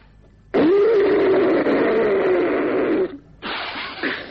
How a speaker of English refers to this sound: Well, that's better. Nothing like blowing your nose.